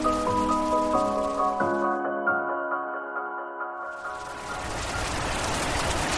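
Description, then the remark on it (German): Steady rain hisses throughout, partly covered at first by sustained musical tones, then swells into a full downpour once the tones fade. “Das ist nicht gerade leicht bei dem Regen.”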